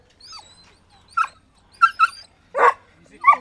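A basset hound of the Easter Lynx Basset Hound Group at a canine event lets out about five sharp barks at irregular intervals, loud and fairly high-pitched, with a soft whine before the first bark. No one speaks.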